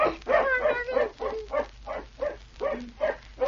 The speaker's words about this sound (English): I wonder if they'll be allowed to keep the dog. I hope so. He sounds a jolly little fellow.